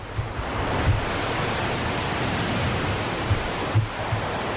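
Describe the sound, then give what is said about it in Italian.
A steady, hissing roar of sea waves washing in continuously, with a few soft low thumps rising from the surf. No voices and no clear melody. “Senti che bella sigla. Sono già rilassato, sono costume adesso. Già mare.”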